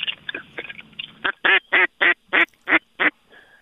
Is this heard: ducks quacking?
yes